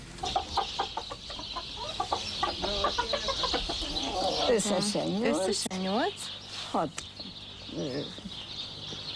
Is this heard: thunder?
no